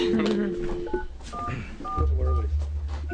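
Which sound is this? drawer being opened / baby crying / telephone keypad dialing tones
telephone keypad dialing tones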